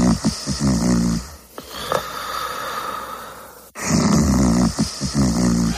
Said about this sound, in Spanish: Este señor está roncando, claramente. El roncar es un fenómeno que se da tanto en hombres como en mujeres. Este claramente era un señor.